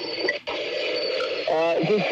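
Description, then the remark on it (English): A steady, broad airplane roar from aircraft near an airport fills the background throughout, with a brief dip partway through and muffled voice-like tones rising over it near the end. “If you've got this airplane noise in the background, but we're not too far away from the airport here.”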